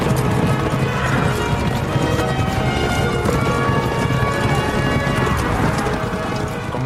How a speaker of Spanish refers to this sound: O sea, hacernos una idea, yo eso por primera vez en esa escena me hice una idea de lo que puede ser una carga de caballería.